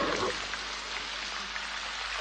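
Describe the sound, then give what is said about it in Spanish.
Steady rain pours down with a constant, dense hiss that stays even throughout, fairly loud, with no distinct drops or pauses standing out. “Cerca de ellos, Gulliver soporta la lluvia de pie y cabizbajo.”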